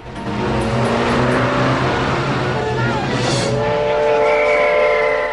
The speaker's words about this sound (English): The train station. The steam train chugs slowly into life.